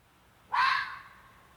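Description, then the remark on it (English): A single sharp, raspy fox bark rings out, abrupt and fairly loud, then trails off into a brief echoing tail against a quiet background. “That's more like a bark.”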